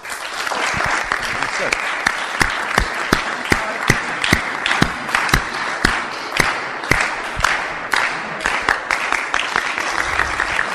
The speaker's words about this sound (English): So let's try this again. All just clap.